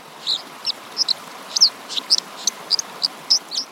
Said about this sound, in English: Birds that live along rushing streams tend to have really loud songs. So like the dipper, for example, has a really loud song, so you can hear it over the sound of rushing water.